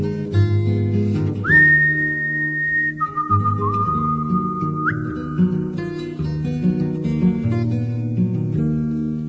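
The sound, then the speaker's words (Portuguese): A clear human whistle used as a musical instrument carries a few long, sustained melodic notes, sliding between pitches, over steady acoustic guitar accompaniment; the whistling fades after a few seconds while the music continues. “uma seleção com mais de 20 gravações em que o assobio humano é usado como instrumento musical e o resultado ficou muito bom.”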